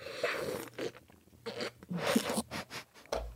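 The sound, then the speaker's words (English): Fairly quiet wet mouth noises, several short noisy bursts of sucking and slurping as someone sips coffee loudly. No one is talking. “Was that a slurp?”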